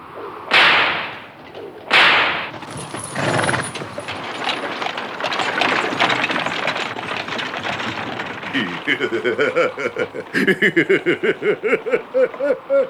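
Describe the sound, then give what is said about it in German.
Two loud, sharp whip cracks snap a second apart as a coachman whips the black horses, followed by a steady rattling, rumbling ride and, toward the end, rhythmic cackling laughter over the noise. “Los, Kutscher! Gib den Rappen die Peitsche!”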